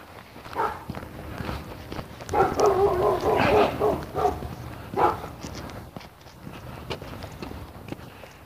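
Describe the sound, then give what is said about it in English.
A black Labrador passes with a person walking it, footsteps scuffing steadily, and a brief burst of dog vocalizing in the middle before the steps fade. “There comes a dog walker. Black lab.”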